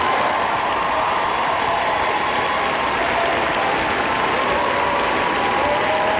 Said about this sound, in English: Can I get an applause? Can I get one?